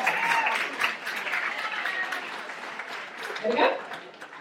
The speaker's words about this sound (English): Well, I think that's a round of applause for that. There we go.